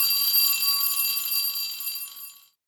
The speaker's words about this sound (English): And there's the final bell.